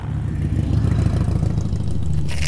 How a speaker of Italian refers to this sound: Una moto fatta con pezzi di fortuna si avvicinò.